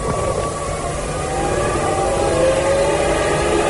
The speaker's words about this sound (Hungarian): És már szólnak a dudák, már szólnak a dudák.